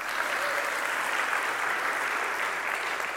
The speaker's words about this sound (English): You can clap for that because that's something God did.